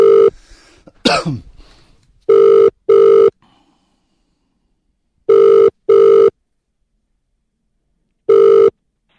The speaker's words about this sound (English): trying a phone call, but I'm not sure who I'm calling. It's one or two people. I labelled them up wrong. I can't remember if I corrected them, so let's see.